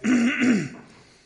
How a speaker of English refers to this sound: Still got that cough thing going.